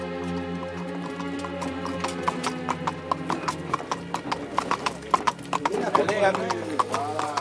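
Horse hooves clip-clop in a steady, brisk rhythm, clear, as a rider travels down the Durance valley toward Manosque in stifling heat through deserted countryside, over a sustained tonal background that grows busier toward the end.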